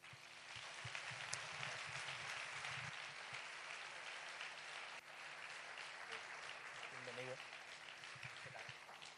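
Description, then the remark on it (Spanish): A large audience claps steadily and continuously for several seconds, welcoming a guitarist, a dense, even wash of applause with faint voices murmuring beneath it. “y recibimos con un aplauso a ….”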